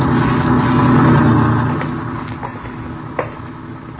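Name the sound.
truck engine driving past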